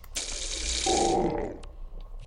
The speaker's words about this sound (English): Well, apparently they racked some electronic equipment because now we get like sparks flying everywhere.